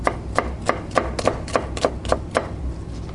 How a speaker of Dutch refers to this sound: Gaston Scholten heel druk bezig om een uitje te snijden